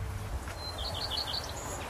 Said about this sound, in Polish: Tu już ją słychać. Pleszka to jest taki mały gatunek ptaka, podobny do kopciuszka. Te dwa ptaki są ze sobą spokrewnione i mają ciekawą sylwetkę.